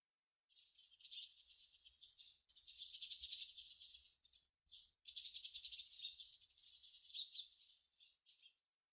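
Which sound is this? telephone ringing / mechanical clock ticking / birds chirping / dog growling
birds chirping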